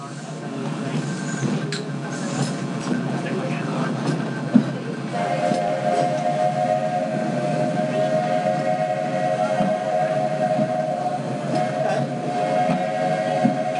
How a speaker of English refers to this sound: There are some who say that this steam train is a little old-fashioned, but for me, it's the only way to travel.